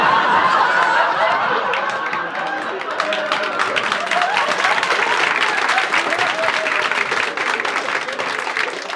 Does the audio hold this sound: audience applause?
yes